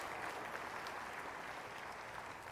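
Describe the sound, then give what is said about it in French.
An audience claps loudly and steadily, a dense wash of many hands applauding together without pause and no voices rising above it. “Que ceux qui le savent, le croient et veulent le témoigner, applaudissent à tout rompre.”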